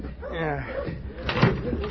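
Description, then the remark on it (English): A door opens with a short clunk and rattle about midway through, following indistinct voices talking, with low rumbling background noise throughout; the door is opened to let a judge step out and stretch his legs. “I'll open the door and let the judge step out and stretch his legs.”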